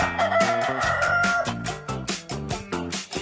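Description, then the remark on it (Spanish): A rooster's drawn-out crow, played as the Wednesday "gallo pandémico", rings out over loud, upbeat music with a bouncing bass line and punchy drums that keep going after the crow ends. “Miércoles, gallo pandémico, ¡súbale!”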